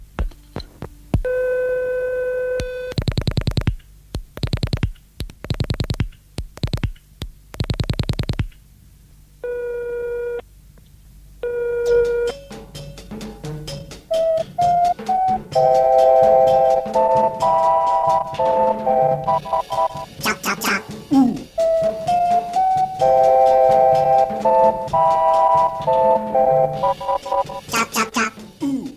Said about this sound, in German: Um den richtigen Rhythmus zu erhalten, zeichnete ich ein Taktband, auf dem jeder Ton in seiner richtigen Länge fixiert wird. Am Schluss mischte ich noch allerhand Zugemüse bei und fertig ist er, der Summton Cha-Cha-Cha, einmalig, noch nie dagewesen.